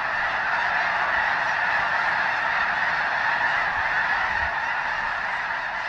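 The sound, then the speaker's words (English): A huge flock of 10,000 or more snow geese honking all at once as they rise from a field into flight when a bald eagle flies over, a dense, continuous roar of overlapping calls that stays loud and steady throughout. “And listen, too, when a bald eagle flies over and the multitudes take flight in a spectacular avian blizzard, their joined voices all but deafening.”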